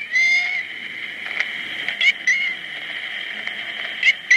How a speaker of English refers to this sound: The best Joe could come up with was that the cat was saying, help me.